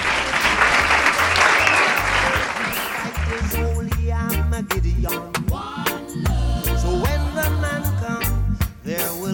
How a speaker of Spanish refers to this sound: Un fuerte aplauso